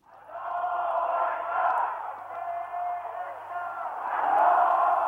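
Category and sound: crowd, huge crowd cheering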